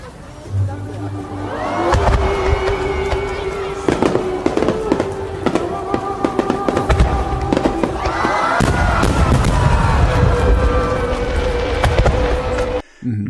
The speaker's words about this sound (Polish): Co jeszcze? No, sztuczne ognie.